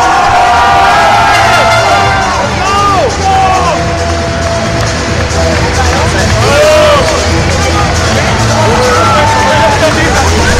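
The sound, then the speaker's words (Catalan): A large crowd cheers loudly and steadily at a basketball victory celebration, with a dense babble of voices broken by high whoops and shouts rising above the din throughout. “però de moment aquest és el so de la festa.”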